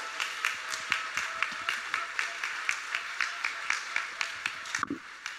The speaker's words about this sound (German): Ein kräftiger Applaus für Hans.